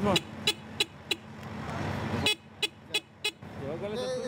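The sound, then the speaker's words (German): Busy street traffic in Manhattan's Midtown business district rumbles steadily while a man speaks over it, broken by a string of short, sharp car horn toots spaced irregularly across the scene. “Ein Manhattan Rider, ausgerüstet für den Kampf gegen die Zeit und den Verkehr des Geschäftsviertels Midtown.”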